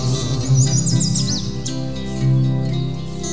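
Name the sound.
nightingale singing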